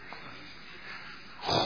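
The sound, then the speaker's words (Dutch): A voice imitates the crackling of a big fire: faint, scattered breathy noise, then a short, louder burst of rough, hissing breath near the end. No words are spoken. “Ja, hoe gaat dat dan eigenlijk, een vuur?”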